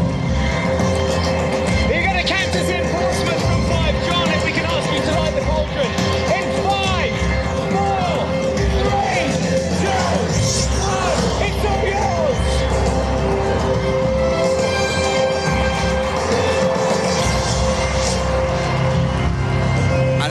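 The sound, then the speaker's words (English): A crowd of 35,000 people at the Olympic torch stage on South Sea Common in Portsmouth screams and cheers as the torchbearer is on stage, waving union flags, in a dense, continuous roar, many voices overlapping loudly and steadily throughout, with no single speaker standing out. “The flame burns brightly on the Olympic stage on South Sea Common, and 35,000 people are jumping and screaming and cheering and waving their union flags and just being proud to be British.”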